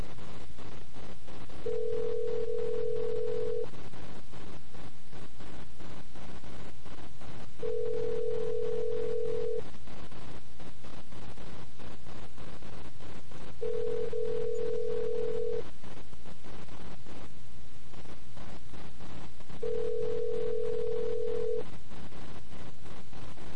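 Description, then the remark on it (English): A phone line rings out while a call waits to connect to a phone seen on a webcam, with a person leaning right against it: four long, steady ringback tones evenly spaced every few seconds, over a constant hiss of background noise, with no answer. “Pick up the phone.”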